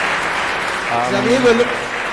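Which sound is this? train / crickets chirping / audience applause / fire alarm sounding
audience applause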